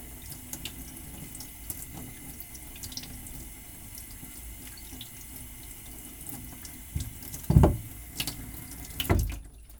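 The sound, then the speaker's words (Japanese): Tap water runs steadily into a sink with a soft, continuous hiss, broken near the end by a few louder splashy bursts as something is rinsed under the stream. No voices. “とりあえず水でさっと流しときます。”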